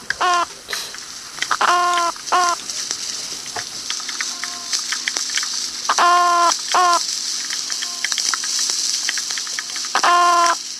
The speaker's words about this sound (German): Opsanus beta, Golfkrötenfisch.